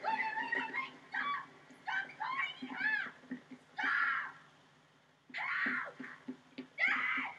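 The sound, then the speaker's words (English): A young girl screams and wails for her dad in repeated high-pitched bursts, loud, with short ragged breaths between cries and a brief pause near the middle. “Now she's screaming for Dad.”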